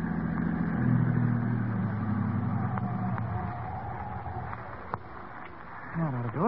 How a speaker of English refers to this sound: There. This looks like as good a place to park as any. I'll drive the car off the road.